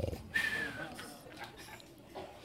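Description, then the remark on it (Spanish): A person mimics a snore: a short, noisy rasping breath followed by a thin whistling tone, then a fainter breathy tail, fairly quiet. “Y después nos damos cuenta que roncaba como”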